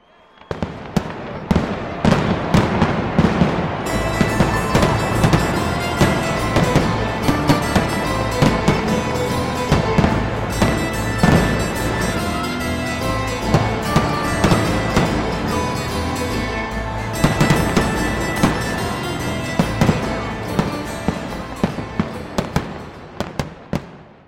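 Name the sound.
fireworks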